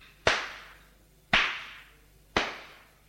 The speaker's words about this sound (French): Il la gifle.